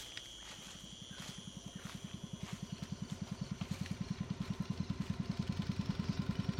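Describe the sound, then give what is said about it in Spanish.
A motorboat engine on a launch chugs steadily with a rapid, regular throb, growing gradually louder over the few seconds, with a faint high whine above the low rumble and no voices, around 3 p.m. on a sunny afternoon. “El ruido del motor no nos deja hablar mucho mientras vamos avanzando”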